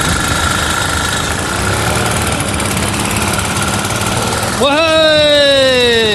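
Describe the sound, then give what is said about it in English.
An old engine nicknamed Lazarus, jump-started with a hand drill, chugs and rumbles steadily, then abruptly revs up near the end, its pitch jumping and whining higher as it roars into life. “Lazarus springs into life and the 3 revs are back in business.”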